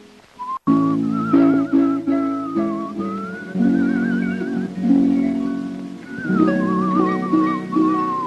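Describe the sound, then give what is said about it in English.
A man whistles a wavering, vibrato-laden melody that glides up and down while he plucks a string instrument, giving a steady plucked string accompaniment throughout. The whistling is clear. “He whistles and raises his eyebrows at the old woman.”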